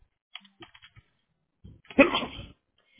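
A single loud, explosive sneeze, preceded by a short sharp intake of breath, after a few light clicking taps like keyboard typing.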